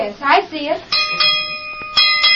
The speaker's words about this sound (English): you better go out and give that bell rope a couple of good yanks. That'll bring the boys in.